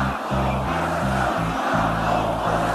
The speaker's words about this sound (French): Vous êtes en train de faire de ce rassemblement du Trocadéro la plus grande démonstration de force de cette campagne. On est chez nous, crie la foule au meeting d'Éric Zemmour.